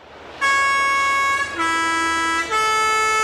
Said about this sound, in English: Drivers travelling on one-way, windy mountain roads in Switzerland will know that sound. It's the post bus, warning them to pull over and let it pass.